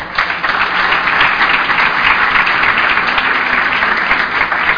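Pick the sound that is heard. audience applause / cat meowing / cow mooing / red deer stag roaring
audience applause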